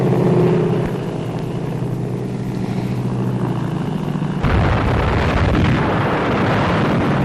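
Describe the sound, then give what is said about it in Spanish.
Old, noisy archival recording of the Japanese air attack on the Pearl Harbor naval base, with more than 350 planes attacking the US Pacific fleet shortly before 8 a.m.: a steady low droning roar for several seconds, then an abrupt shift to dense, crackling rumbling bursts like explosions and gunfire, with no voices. “Se cumplen 80 años del ataque aéreo japonés a la base naval de Pearl Harbor y este sonido es uno de los pocos que se conservan sobre ese momento.”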